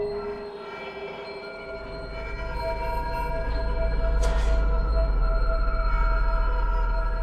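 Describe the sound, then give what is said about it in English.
A subway train rumbles through a tunnel with a heavy, continuous low roar that swells louder midway, overlaid by steady metallic whining tones and a brief hiss of rushing air. “Through tunnels deep where shadows dwell, the subway's breath a story to tell.”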